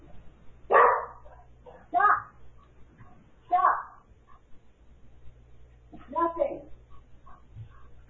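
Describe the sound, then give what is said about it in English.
A dog barks at a package delivery four times in separate, irregularly spaced bursts, each sharp and fairly loud, with quiet pauses between them and a faint low hum underneath. “I got to get the dog to stop barking.”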